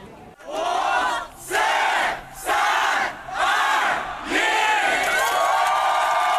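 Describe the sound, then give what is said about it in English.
A large crowd cheers and shouts in loud, rhythmic waves, roughly five swells separated by brief dips, at the opening of the new Apple Jing'an store in Jing'an district, China, where fans had queued since the night before; no distinct speech. “There's a huge crowd waiting for something important.”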